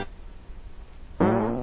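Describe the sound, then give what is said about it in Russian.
After a stretch of low background hiss, a single loud, buzzy fart suddenly erupts, lasting about half a second with a wavering, raspy tone. “Ты что в мою сапку пёрнул?”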